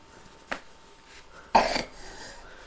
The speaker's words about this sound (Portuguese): Tosse.